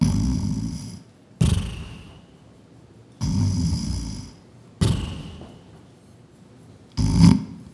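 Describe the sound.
A person imitates the loud, rasping snoring of a sleeping couple: about five rough snores in a steady rhythm, each followed by a short quiet gap, alone with no other voices.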